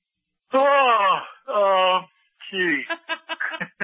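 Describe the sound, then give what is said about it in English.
A loud, drawn-out exaggerated yawn from one person, voiced in two long moaning stretches, followed by a quick burst of short, choppy vocal sounds. “No, I'm just kidding about the yawn there.”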